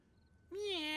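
After a quiet half-second, a single loud, drawn-out meow from a pet cat rings out, its pitch gently rising and then sliding back down.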